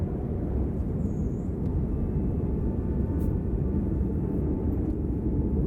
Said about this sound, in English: Wind's picking up a bit, though.